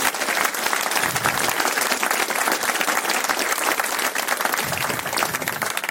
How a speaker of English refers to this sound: And I really, really want a very loud applause for Event Infra for making this possible.